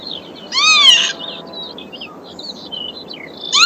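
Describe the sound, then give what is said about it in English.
A single loud, harmonic bird call played from a phone bird-song app near the M621 rises and falls for about half a second, followed by a few faint high chirps over a steady low background rumble. No one speaks. “I've got an app that plays all the bird songs.”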